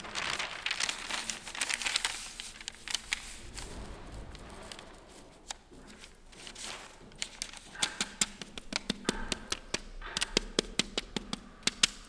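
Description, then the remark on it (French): Handling of thin clay sheets with drawn motifs that are cut out into a lace-like pattern: soft crinkly rustling and scraping, punctuated by many sharp little taps and clicks that grow more frequent toward the end, with no voices. “Donc là, ce sont des plaques d'argile.”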